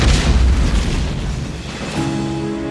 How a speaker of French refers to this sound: Elle pourrait avoir été causée par l'électricité statique accumulée, il y avait de l'orage ce soir-là, et le fait de jeter les cordages d'arrimage au sol aurait pu déclencher une réaction électrique. Boum !